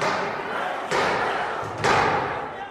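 Heavy pounding by rioters on a door of the U.S. Capitol, like a battering ram, with two loud, booming blows about a second apart over a constant noisy, muffled commotion.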